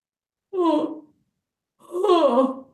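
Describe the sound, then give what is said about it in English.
Two long, voiced yawns with falling pitch, each lasting about half a second, separated by a short silence. They are fairly loud, with no talking around them. Audience members yawn on request as a relaxing voice exercise that opens the back of the throat. “Everybody, can you yawn?”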